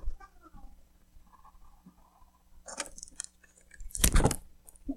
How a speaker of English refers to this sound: Whoever wants to be first, let me get a drink of water first.